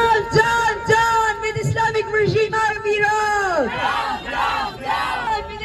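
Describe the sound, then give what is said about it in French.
A crowd of about 80,000 people at a rally in Berlin in support of Mahsa Amini shouts a sustained, rhythmic chant together, loud and unbroken, with pitched unison voices rising and falling in repeated phrases over a steady roar of many people. “Manifestation de soutien à Mahsa Amini à Berlin qui a réuni 80 000 personnes peu de temps après la mort de cette jeune iranienne kurde.”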